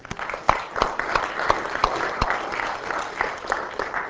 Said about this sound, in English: I think they deserve a little round of applause for that.